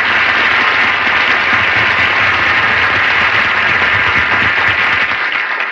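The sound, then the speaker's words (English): A studio audience breaks into sustained applause for Mel Blanc, a dense, steady wash of many hands clapping at an even loudness for several seconds before tapering slightly at the end. “Give him a big hand.”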